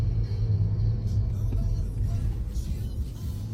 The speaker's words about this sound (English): Oh, no, it's a bus.